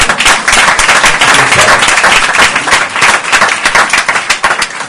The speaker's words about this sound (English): Let's clap for them, amen.